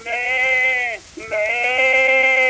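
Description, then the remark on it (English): A lamb bleats twice, loud: a long wavering cry that dips and breaks off, then a second quavering bleat right after, with no talking. “And the little lamb who bleated.”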